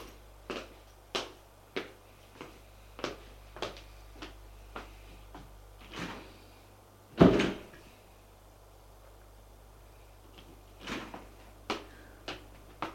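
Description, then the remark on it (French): Elevator sounds as people ride up to an apartment floor: a steady run of mechanical clicks over a low hum, one heavy door clunk partway through, then the clicking starts up again near the end. “Ils vont prendre l'ascenseur.”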